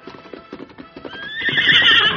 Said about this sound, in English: The Lone Ranger spoke soothingly to the horse, calmed him, and then turned him around on the trail.